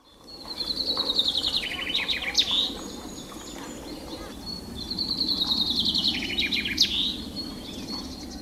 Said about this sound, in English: Birds from Flanders sing a song which ends with a particular flourish, which Flemish finch keepers, known as finconeers, call a suskevit. Have a listen to this and see if you can pick it up.